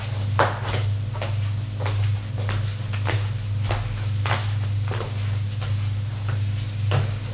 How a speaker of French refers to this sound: Elle le suit. Il monte les étages.